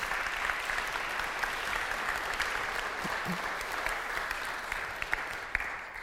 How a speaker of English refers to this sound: Fantastic. Thank you. Let's give Miriam a round of applause.